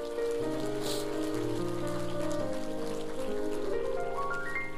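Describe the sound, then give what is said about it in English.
A church audience claps for the Lord God steadily, a dense, even patter of many hands lasting the whole stretch, while sustained keyboard chords ring underneath and a short rising run of notes climbs at the end. “Now give the Lord God a clap of.”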